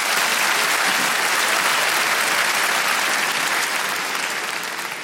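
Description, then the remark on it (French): A crowd of audience members aged 30 or older, answering a performer's question by applause, claps steadily in sustained, dense applause for about five seconds, loud and even throughout, easing off only slightly at the very end. No voices stand out. “Et c'est parce que là, tous ceux qui viennent d'applaudir, ils savent un truc que les autres, vous ne savez pas.”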